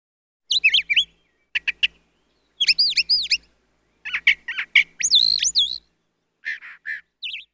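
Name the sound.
bird chirping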